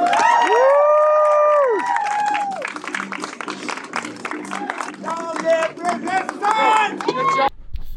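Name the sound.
protest crowd cheering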